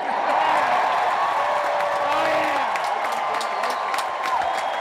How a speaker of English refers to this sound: Biggest applause line of the night by far. Like, the catharsis of waiting for Trump is satisfied by this.